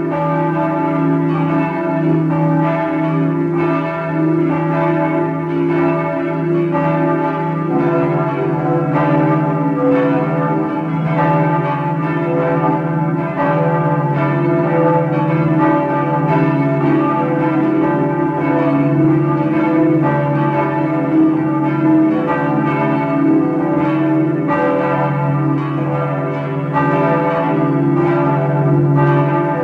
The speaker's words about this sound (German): Sie hören die Glocken der Pfarrkirche St. Karl Borromäus im 4. Wiener Gemeindebezirk.